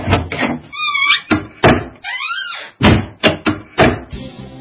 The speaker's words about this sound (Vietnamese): Vị y sĩ chắc chắn mọi người xung quanh đã đi hết, mới bảo người phụ tá đóng hết cửa và cửa sổ lại.